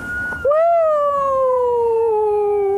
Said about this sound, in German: Oft verscheucht schon der Lärm von Brads Sirene die Tiere. Oh, der ist gut. Also den finde ich eigentlich am besten.